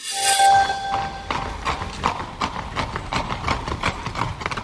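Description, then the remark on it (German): Hooves of two horses ridden by a grandfather on a 550-kilometre ride from Bavaria to a school to pick up his grandson, clip-clopping in a steady rhythm, preceded by a brief high-pitched whinny-like tone at the start; no one speaks. “Dass ein Opa auf zwei Pferden zur Schule reitet, um seinen Enkel abzuholen, ist schon was Besonderes.”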